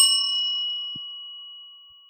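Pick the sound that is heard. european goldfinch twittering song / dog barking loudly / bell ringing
bell ringing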